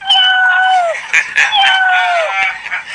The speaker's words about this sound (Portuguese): Esse gato, pelo som, esse gato é gordo. Esse gato deve comer muito. Faz o miau de novo aí.